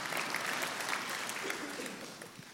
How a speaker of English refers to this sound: And all the seasoned saints are clapping.